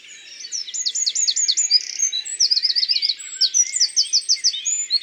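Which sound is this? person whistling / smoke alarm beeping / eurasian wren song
eurasian wren song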